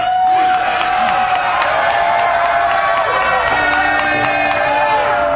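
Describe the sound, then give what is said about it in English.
A loud crowd shouts down the close of a Colorado press conference opposing marijuana Amendment 44, held with Governor Bill Owens; many voices blend into a dense, steady roar with sustained cries and occasional whoops, never letting up. “We're literally being shouted down by the other side.”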